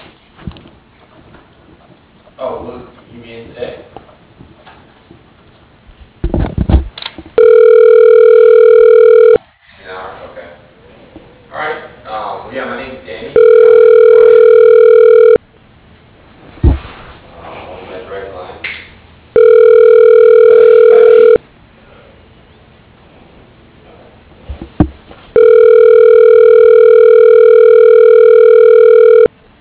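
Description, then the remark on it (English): A telephone rings in loud, steady tones while a call is being transferred, four rings spaced evenly several seconds apart, with murmuring voices and background bustle filling the gaps between rings. “Can you put me through to Doug again? Sure. Hold on, please.”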